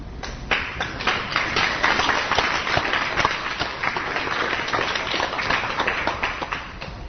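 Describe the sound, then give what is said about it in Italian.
Sustained applause from a crowd, a dense steady wash of many hands clapping at once, loud and continuous for the whole stretch with no voices standing out. “Ma io non ce l'ho senza applaudire, perché capisco il disagio di alcune persone adesso applaudite.”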